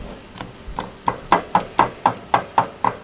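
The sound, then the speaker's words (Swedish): A knife chops vendace roe (löjrom) on a board in a steady rhythm of about a dozen quick, sharp strokes, faint at first and then growing crisper and louder. “Jag hackar sönder löjrommen här lite.”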